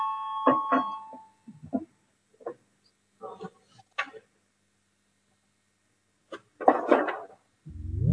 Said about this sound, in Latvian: Deputāti, lūguši balsojumu, lūdzu zvanu.